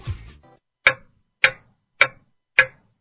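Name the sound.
clock ticking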